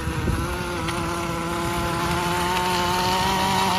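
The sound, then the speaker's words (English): A weed whacker edging a lawn, worked by a man riding a Segway scooter, whines steadily, its high buzzing engine note holding nearly constant pitch throughout with no voices over it. “He's edging by using the Segway scooter.”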